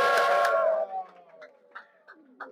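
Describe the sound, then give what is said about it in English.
A loud burst of audience cheering and shouting with some clapping for a boy, fading quickly after about a second into scattered voices and a few brief calls. “Clap for him.”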